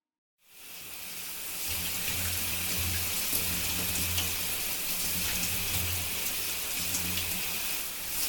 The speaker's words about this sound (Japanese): さて、早速。シャワーで頭を濡らして、シャンプーでゴシゴシしちゃうからね。